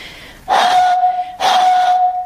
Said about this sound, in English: Instead of putting my finger around the bottle top, what I'm going to do, what most people would do when they play this, is blow across the top. So I'll just see if I can get a note.